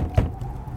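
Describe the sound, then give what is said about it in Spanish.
A single dull, muffled knock on the door of a ranch house in 1948, during a severe snowstorm, by a tall, thin man in a black coat; one short low thump standing alone against a quiet, faintly rumbling background with no voices. “¿Quién puede llamar a la puerta en medio de la tormenta de nieve más fuerte que recuerda Myers?”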